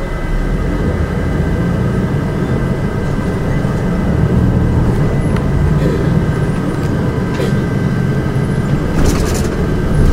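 Steady low engine rumble and road noise fill the cabin of a moving bus heading toward a pharmacy, with a faint whine running throughout and occasional light rattles and clicks.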